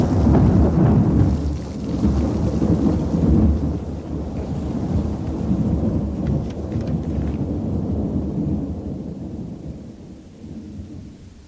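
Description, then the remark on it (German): A heavy thunder crash following a lightning strike on a stormy night rolls out loudly at first, then rumbles on and slowly fades over several seconds, with a steady wash of downpour rain beneath it and no voices. “Eskadron, Ulanderegiment 14, Parole, Prinz Eugen, schmetterte ein Blitz nieder, straßenweit die stürmische Nacht erhellend. Hinter ihm krachte, als risse er den ganzen Himmel mit sich heran.”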